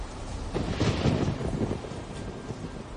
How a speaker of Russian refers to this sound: Уже через несколько секунд от раскатов грома сотрясалась земля, порывы ураганного ветра стегали деревья, а небеса проливали на землю обильные потоки дождя.